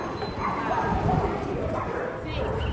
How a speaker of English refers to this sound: Dogs in Naples.